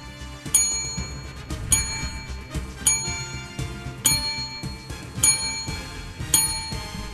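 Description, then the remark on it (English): A bright bell rings repeatedly in a steady rhythm on the 950 KJR radio show, about six strikes with shimmering tones lingering between them, loud with no voices over it. “You want the bell?”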